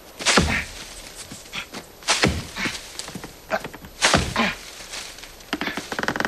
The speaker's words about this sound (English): You might want to chop a little fast. I'm chopping as fast as I can.